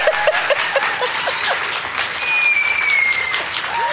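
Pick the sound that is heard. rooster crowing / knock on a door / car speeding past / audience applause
audience applause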